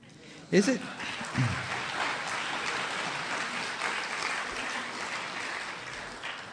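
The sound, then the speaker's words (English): Sustained audience applause for a Texas Republican, a dense crackle of many hands clapping at steady loudness for several seconds, with a few brief voice shouts near the start. “You didn't know that you were going to be applauding a Texas Republican before tonight.”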